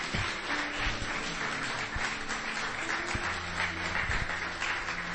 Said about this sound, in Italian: Facciamo un applauso al Signore Gesù, che merita ogni lode.